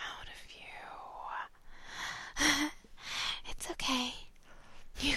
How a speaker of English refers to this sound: cough and gag on it. The important thing is we got it in your mouth.